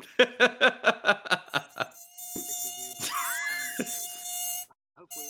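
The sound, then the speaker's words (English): A high, thin mosquito whine sound effect drones steadily for about two seconds, following a quick run of short rhythmic pulses, then cuts off abruptly with a couple of faint clicks. “Fuck off, Mozzie! Gotcha!”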